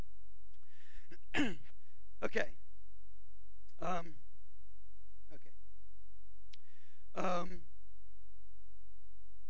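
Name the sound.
throat clearing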